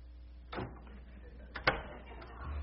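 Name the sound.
door being opened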